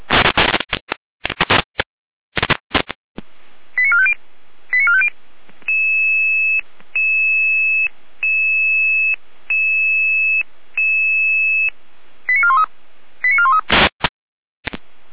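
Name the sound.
dispatch alert tones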